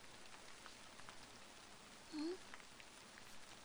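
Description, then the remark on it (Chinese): Steady rain, started suddenly at night, patters down in a soft, continuous hiss, with scattered drops ticking on a surface and a brief faint tone rising partway through. “没想到今晚会突然下雨。”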